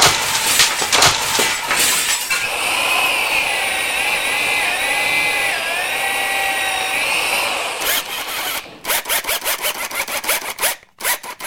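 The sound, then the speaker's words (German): A ceramic washbasin being smashed by a handyman during a bathroom renovation: loud cracking and shattering blows, a steady high whine of a power tool in the middle, then a rapid burst of sharp, breaking impacts. “Nachdem Björn das Waschbecken zerstört hat, wird ein Wasserhahn direkt über die Toilette montiert.”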